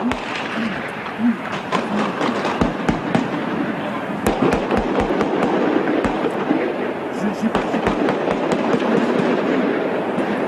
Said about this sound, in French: Il est 17h15, les policiers d'élite s'apprêtent à intervenir sur la prise d'otage à Vincennes tout de suite. Les premiers coups de feu.